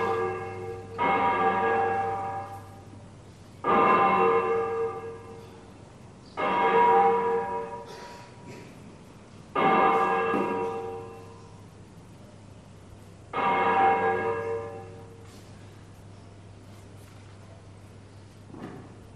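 A church bell swung full circle (volteo technique), in a 1980 recording, clanging five times at slow, slightly uneven intervals, each stroke ringing out loud and resonant over a steady low hum, with no voices.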